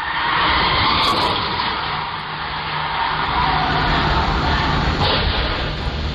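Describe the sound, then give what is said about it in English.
Anne Heche's car, caught on a Ring doorbell, speeds through a neighborhood at 100 miles an hour, roaring by in a loud, continuous rushing noise lasting several seconds, with a sudden sharp burst toward the end as it crashes into a house. No voices. “And then, of course, this was the audio of the Ring doorbell catching her speeding through the neighborhood at 100 miles an hour just before impact.”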